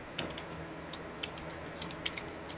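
Soft, sparse keyboard typing: a handful of light, irregular key clicks over a low steady background hum, with no one talking.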